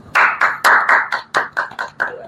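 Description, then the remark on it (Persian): A short burst of hand clapping, about nine sharp claps in a quick, slightly uneven rhythm, fairly loud, like a small group or a single person applauding briefly. “ممنون از شما و ازت میخوام که خودتو تشویق کنیم.”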